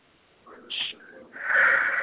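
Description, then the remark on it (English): A person yawns, starting with a few soft breathy sounds and then opening into a long, loud, airy exhale with a voiced, strained tone that swells toward the end. “You made me yawn, literally.”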